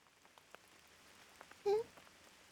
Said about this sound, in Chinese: 怎么下雨了？我记得今天是没有雨的。